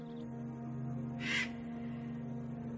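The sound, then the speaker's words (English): A single harsh buzzard call rings out briefly, fairly loud, over a steady low hum of background noise, from buzzards flying near a quarry. “they had seen buzzards flying out near the quarry where Eric had first encountered the men”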